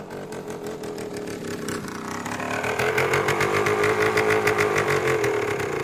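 A small motor scooter engine approaches at a zoo, its pitch shifting as it draws near, then settles into a steady, buzzing idle. No one speaks.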